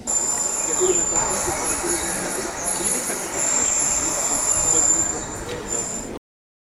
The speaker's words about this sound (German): Zwischen Vogelgezwitscher, Spaziergehern und Gartenarbeiterinnen hört man auch ein anderes Geräusch. Baulärm.